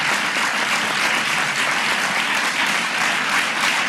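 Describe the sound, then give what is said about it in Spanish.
Steady, sustained applause from a large audience for the rector at the UMH opening of the academic year in the Valencian Community, dense and even clapping at a loud level for several seconds without any voices. “El aplauso para el rector.”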